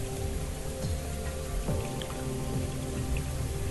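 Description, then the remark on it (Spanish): A steady, dense rush of falling water splashing without pause from a waterfall, with scattered droplet-like patters on top and no voices. “El agua cae y hace ese tranquilizante ruido de la cascada al caer.”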